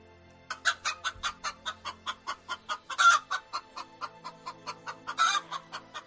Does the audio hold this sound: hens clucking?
yes